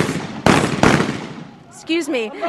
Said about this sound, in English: People are literally running in here, and the sound that you can hear behind me of shooting is celebratory gunfire.